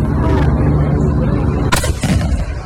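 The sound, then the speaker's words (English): A Civil War cannon fires on the 4th of July from a front lawn with a heavy, booming blast, followed moments later by a second sharp report, both rolling over a constant low rumble outdoors. “He had a party, and every 4th of July, he fires the Civil War cannon that he keeps on his front porch, or front, I should say his lawn.”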